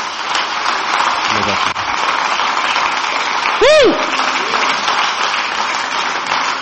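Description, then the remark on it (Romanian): An audience applauds God in a dense, steady wash of clapping that fills the whole clip, with a short rising-and-falling whoop or whistle cutting through about halfway. “Haideți să-L aplaudăm pe Dumnezeu.”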